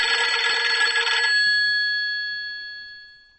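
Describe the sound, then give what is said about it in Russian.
A journalist's mobile phone rings with a call from the newspaper's editorial office: a bright electronic tone, a dense burst of ringing for about a second and a half, then a single sustained note slowly fading away. No one speaks. “Вот, пожалуйста, снова звонок из редакции.”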